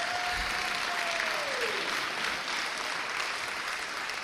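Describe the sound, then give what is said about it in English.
Sustained audience applause for two members of an ensemble, a dense, steady wash of many hands clapping at an even loudness, with a faint tone sliding downward in pitch during the first two seconds. “Can we have a big round of applause for two members of the not-so-small ensemble?”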